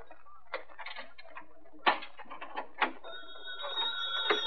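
A few sharp clicks and knocks, then a telephone bell starts ringing, a bright, steady, shrill ring that grows slightly louder toward the end, with no one talking.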